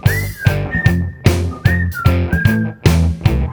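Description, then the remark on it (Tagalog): A bright whistled melody with gliding notes rides over a steady, punchy beat of music, each phrase landing between regular rhythmic hits. “Pasipol-sipol na lang.”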